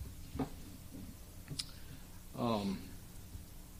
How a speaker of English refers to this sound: I'd like to set my clock here so I don't run too long. Just do it this way.